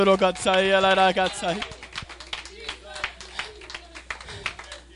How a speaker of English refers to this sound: If you will just give God a hand clap of praise right now. Hallelujah.